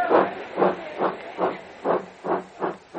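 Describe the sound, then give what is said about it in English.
A steam locomotive chuffs steadily as it moves off, with loud, even bursts of hissing exhaust about twice a second over a low mechanical rumble. No voices are heard. “He is about to ask what the news is when the train moves off.”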